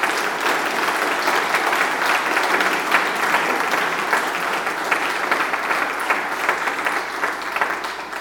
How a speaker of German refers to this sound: Und ich finde, gebt diesen Kirchenvorstehern, die wir hier haben, gebt denen mal einen dicken Applaus.